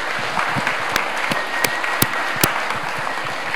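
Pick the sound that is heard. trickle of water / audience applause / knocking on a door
audience applause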